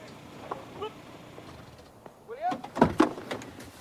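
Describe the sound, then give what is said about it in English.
A sports car door unlatches and swings open in the courtyard of a country house, with a sharp click and a couple of quick clunks near the end, over a low, steady background hum. “She stops the car and puts a hand on Jack's shoulder as he opens the door.”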